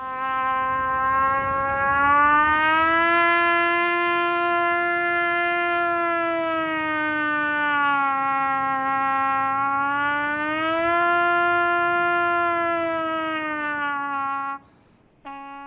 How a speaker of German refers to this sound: Erinnert an eine Sirene, hat aber auch was von einem Klageton, der Ton des Trompeters